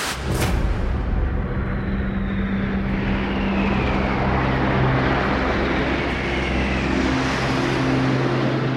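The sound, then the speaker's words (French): A loud, continuous roar of a low-flying jet aircraft passing overhead, its engine noise sweeping in pitch as it moves, with no voices present. “Et là, ça faisait comme des avions à réaction qui passaient très bas.”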